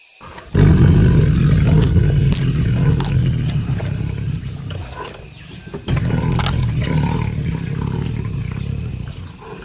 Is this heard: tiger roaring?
yes